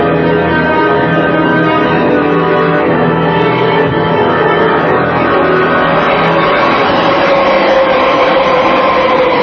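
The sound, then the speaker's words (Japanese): A train runs along the rails, a loud, steady rumbling roar with a metallic whine layered over it, continuing without a break for the whole stretch and with no voices. “まず列車の事故、鉄道管制システムのコンピューターにハッカーが侵入、列車の進路を不正に操作した結果、旅客列車と貨物列車が猛スピードで衝突する。”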